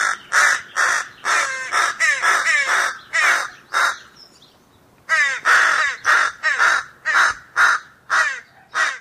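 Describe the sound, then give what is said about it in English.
Two crows, an adult and a juvenile, caw back and forth in a steady series of loud, harsh calls, one voice slightly higher and more nasal than the other, with a brief pause midway before the calling resumes. “Here are two crows calling, an adult and a juvenile.”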